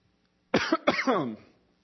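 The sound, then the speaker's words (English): A single sharp cough, then a longer, rasping throat-clearing that trails off. No one speaks, and the background is quiet. “Y'all got coughing problems, excuse me.”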